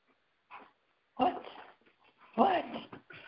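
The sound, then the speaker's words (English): A dog whimpers in a few short, whiny bursts, with two louder cries rising and falling in pitch and brief quiet gaps between them. “Oh, this dog.”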